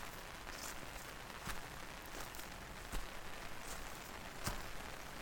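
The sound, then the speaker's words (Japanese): Soft, steady rain falls on a moss-covered Japanese garden path among dense trees, a low-level hiss, with a few faint footsteps landing at a slow, irregular pace. No one speaks. “それに、雨を浴びて、苔が緑色にツヤツヤ光って、すっごく綺麗。”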